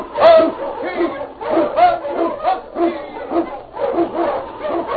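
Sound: sled dog barking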